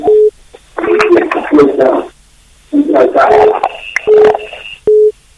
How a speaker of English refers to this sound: There is noise in the background. Move away from the radio, please.